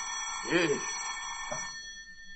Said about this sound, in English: Phone's ringing. Yes, so it is. Well, don't you think you ought to answer it, Fatso? Never can tell. It might be business.